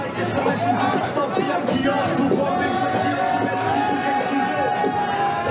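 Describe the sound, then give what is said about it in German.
A dense, steady crowd roar on the red carpet at the premiere of the film Sonne und Beton, with overlapping cheers, shouts and babbling voices filling the whole stretch at a consistently loud level. “Ja, so ungefähr klang es also vor einer Woche am roten Teppich.”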